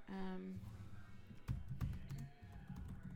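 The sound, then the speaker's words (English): Computer keyboard typing as a name is typed into Google: a run of soft, irregular key clicks with a few sharper taps. A brief hum-like voice sound opens it, and low background murmur continues beneath the keys. “So I'm just typing your name into Google.”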